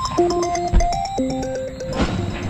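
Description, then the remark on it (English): A mobile phone rings late at night with a bright electronic ringtone, a stepped melody of steady tones over a fast pulsing beat, fairly loud, with no one speaking. “Right now it's late at night and Robin's phone is ringing.”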